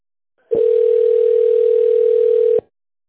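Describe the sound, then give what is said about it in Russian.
A single steady telephone beep follows an automated phone menu telling callers to dial an employee's extension after the signal or wait for an operator: a pure mid-pitched tone held for about two seconds with abrupt start and stop, loud and alone with no talking. “Если вы знаете внутренний номер сотрудника, наберите его после сигнала или дождитесь ответа оператора.”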